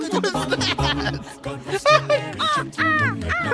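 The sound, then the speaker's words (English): A woman cackles loudly in a rapid, shrill series of rising and falling whoops, imitating a bird's call, with bursts repeating over a few seconds. “This is her cackling, calling like a bird.”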